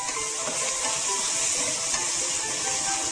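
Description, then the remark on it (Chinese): Small cucumber slices sizzle steadily as they are plain stir-fried in a hot wok with a little salt and a little hot water added, a dense, continuous crackling hiss with faint scraping of stirring underneath, no voices. “然后再来很重要的就是我们要加一点点的热开水去拌炒一下。”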